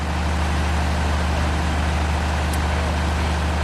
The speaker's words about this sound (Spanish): Justo al lado varios camarotes y si seguíamos por ese mismo pasillo te encontrabas con la sala de máquinas, claro, y el sonido del generador.